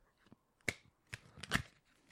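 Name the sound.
shuffling playing cards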